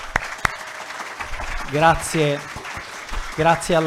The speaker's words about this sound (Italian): Colgo immediatamente l'occasione per dare il benvenuto ai ragazzi, nostri ospiti del liceo scientifico di Altamura, Federico II. Vi accogliamo con applauso.